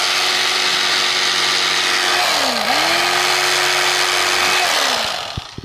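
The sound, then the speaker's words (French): Small electric scissors whir steadily, their motor pitch dipping briefly under load as they cut through material for a puppet's chest, then winding down and stopping near the end. “Ça découpe. Ça fait la poitrine de la marionnette. Elle a scie à pain. Ouais, ciseaux électriques.”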